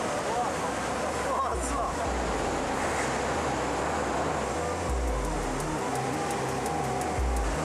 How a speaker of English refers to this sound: Xiao then signals for the section to be tipped, causing tons of rainwater to pour out.